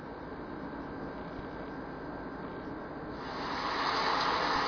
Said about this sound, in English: Alexa, play thunderstorm sounds.